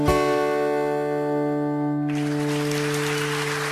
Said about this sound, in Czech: Tak to bylo velký potlesk